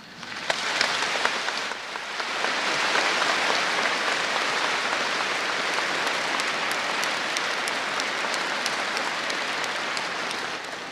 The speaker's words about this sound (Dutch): Applaus, hè, want ja, kinderen, dat doet het altijd, hè? Prachtig.